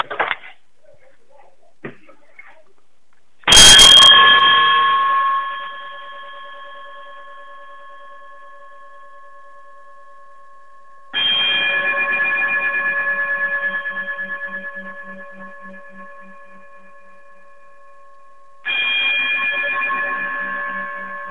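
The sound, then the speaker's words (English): A closing chime is struck three times at slow, even intervals, each note ringing out loud and clear with bright overtones and slowly fading before the next strike. “if you would chime us out, I would greatly appreciate it.”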